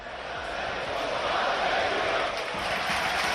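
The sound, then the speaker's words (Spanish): A large football crowd at Anoeta stadium chants together, a dense, steady roar of many voices that holds loud and unbroken for a few seconds, with no single voice standing out. “Bueno, hablando de gritos, escuchen lo que se cantó ayer en Anoeta.”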